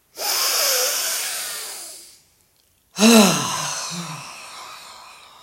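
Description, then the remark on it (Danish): Two strong, forceful inhalations through the nose during a breathing exercise: a long rushing one lasting about two seconds, a brief pause, then a second that starts sharply and trails off with a slightly voiced edge. “den skal vi nu aktivere, og det gør vi ved en kraftig vejrtrækning igennem næsen hen til hænderne her i toppen af brystkassen.”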